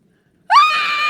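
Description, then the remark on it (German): A single high, sustained scream bursts out suddenly after a brief silence, rising sharply in pitch and then holding loud and shrill; a voice imitates a boy screaming. “Niemand hört ihn, wenn er schreit.”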